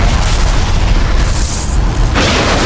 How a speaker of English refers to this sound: Valentine waited to detonate the mine until the cannon truck was over the old soda can that served as a marker. The mine was simple TNT, placed under a thin coat of gravel in the potholed road.